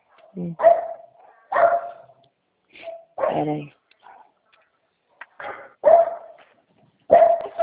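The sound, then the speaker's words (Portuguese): A dog barks repeatedly and loudly in sharp bursts spaced a second or more apart, while a person briefly speaks between the barks. “Lá dentro, esse cachorro latindo, não estou escutando.”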